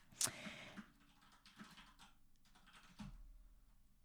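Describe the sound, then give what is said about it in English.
Quiet typing on a computer keyboard as someone searches for how much heroin was worth: a handful of sharp, irregular key clicks, the first one loudest, spaced out over a few seconds with no one speaking. “Sorry, I was typing it and I couldn't find out how much it was worth.”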